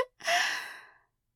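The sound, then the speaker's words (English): A single airy breath, a sharp drawn exhale like a sigh that swells quickly and fades out over under a second, with no talking. “I can hear breathing. I know it's not my own.”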